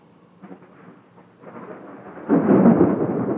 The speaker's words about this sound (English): So we're getting a crazy thunderstorm right now, so I thought I'd come outside and record it